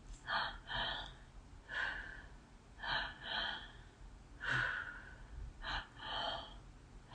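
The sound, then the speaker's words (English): Audible breathing during a double pump breath exercise, following spoken instructions: pairs of quick, sharp inhales followed by longer exhales, repeating several times with no talking. “I invite you to begin with that double pump breath.”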